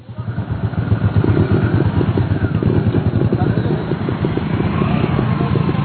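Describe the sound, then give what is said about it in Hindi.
A motorcycle ridden by farmers in a village of Jhagadia town, Bharuch district, Gujarat, India, runs steadily, its low, rapid firing pulses throbbing continuously for several seconds at a fairly loud, even level. “झागड़िया कस्बे के गांव में पैंट शर्ट में मोटरसाइकिल पर सवार ये लोग किसान ही हैं, जो कॉरपोरेट से टक्कर लेने की तैयारी में हैं।”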